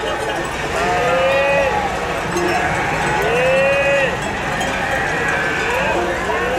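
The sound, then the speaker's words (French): A herd of ewes and Gascon cows out at pasture, with several overlapping bleats rising and falling over a steady, busy background of animal noise and faint clanking bells. “D'un côté, les vaches gasconnes, et de l'autre, les brebis.”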